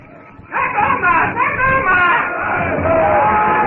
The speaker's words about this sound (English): The witch doctor shouts that the white devil god is in his hut.